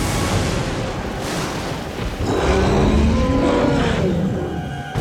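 A creature called a Bokhov lets out a deep, drawn-out, disgruntled moo blending into a growling roar that rises midway and slowly bends in pitch, over a constant heavy rushing wash of pouring rain on a soaked town street, with low rumbling of thunder.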